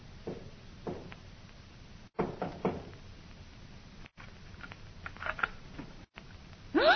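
knocking on door

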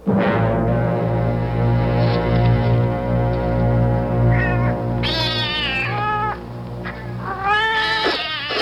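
cats meowing

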